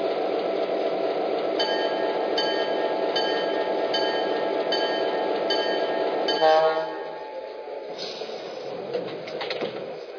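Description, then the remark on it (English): Train number 207, arriving from Cincinnati on track 1, rumbles steadily alongside a station platform, a brief high squeal rising midway before the engine noise drops away, leaving a quieter hum with birds chirping. “from Cincinnati on track 1, train number 207, the Union.”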